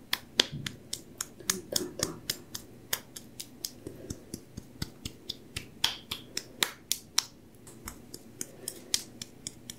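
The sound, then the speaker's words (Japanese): Rhythmic tapping across someone's whole back, a steady run of about twenty quick, crisp pats with short pauses between, each one sharp and clear against a quiet background. “背中全体を叩いていきます。”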